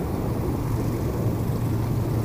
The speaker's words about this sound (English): waves crashing and the sounds of the lake, but you also get traffic and sirens and all that kind of good stuff.